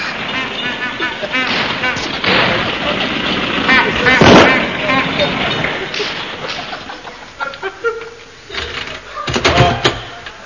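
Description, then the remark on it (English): An old motor car, driven up by a chauffeur, sputters and chugs with loud, popping bursts like backfires, approaching and growing louder before it rattles unevenly near the end. “Is my horseless carriage ready? The chauffeur is pulling it here now.”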